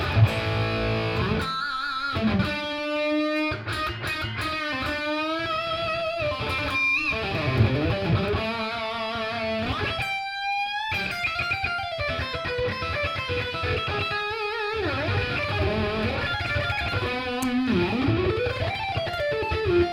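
A distorted electric guitar plays a lively, continuous phrase with bends and sustained notes, loud, with no voices over it for the whole stretch.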